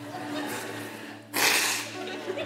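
A single short, forceful nose blow by a speaker during a sermon: a breathy, hissing burst lasting about half a second, set against a quiet room hum.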